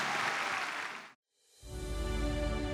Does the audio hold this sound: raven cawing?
no